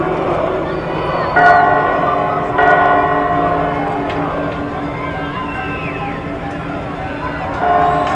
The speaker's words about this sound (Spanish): Cuando vamos a inaugurar, empezaron a tocar las campanas, pues casual siempre lo hacen, camaradas.